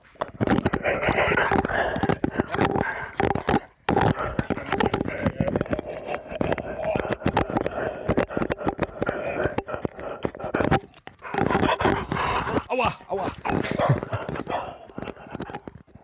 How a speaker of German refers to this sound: Hund kaut Mikrofon.